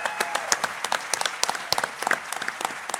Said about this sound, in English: Big round of applause.